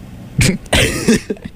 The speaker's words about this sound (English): I just coughed into the mic like a fool.